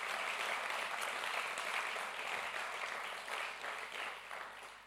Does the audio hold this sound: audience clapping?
yes